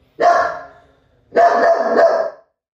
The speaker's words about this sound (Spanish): Lana se cayó. Esperemos que Lana no vuelva a ladrar, ¿no, Lanita?